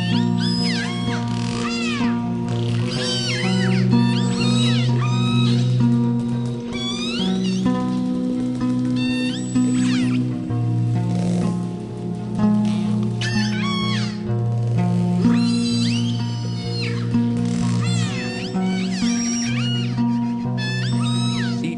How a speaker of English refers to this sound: As producer Barrett Golding learned, Dr. Ford can identify individual groups of killer whales, they're called orcas, by their calls.